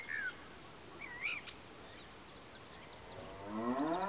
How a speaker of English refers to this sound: Is it a cow? Yes, it is.